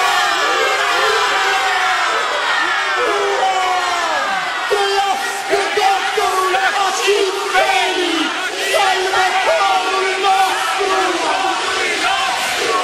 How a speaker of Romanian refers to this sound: Aplauze urale! Ura!